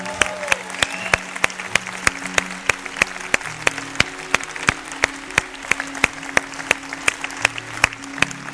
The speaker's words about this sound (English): We want to get all kinds of crazy in here and clap and just cheer for you.